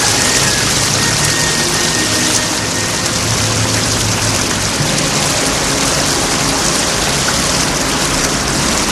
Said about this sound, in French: Il ne peut se relever, la pluie tombe sur le sol, Il est mouillé.